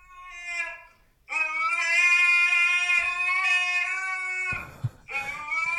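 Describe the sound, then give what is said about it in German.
A fat husky lying in front of a door howls: a short wavering cry, then a long, loud, sustained mid-pitched howl with rich harmonics, a brief rough noise, and another howl starting at the end. “Aber warum jault der denn?”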